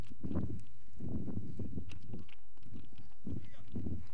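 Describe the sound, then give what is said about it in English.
The hooves of a horse named Sally Red walk at a slow, steady pace, each muffled thud landing about every half second. The steps are fairly low, with faint murmuring in the background. “Try to get my horse right here.”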